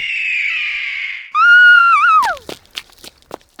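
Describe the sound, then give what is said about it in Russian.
A huge vulture flying out of a freshly dug grave lets out a loud, shrill screech like "hey" that wavers and drops off sharply, preceded by a thinner steady cry, then scattered clattering and rustling noises. “Птица громко закричала что-то похожее на «эй».”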